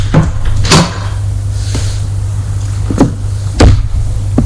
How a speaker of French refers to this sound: Il entend la porte s'ouvrir et cela le fait trembler de peur et de honte.